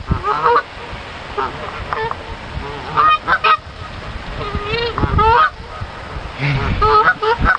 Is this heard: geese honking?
yes